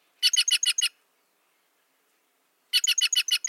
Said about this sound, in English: The jays' noisy, rasping chatter helps ward off predators and keep their colorful kin together. Listen carefully for their clangorous calls for a chance to glimpse these gems yourself.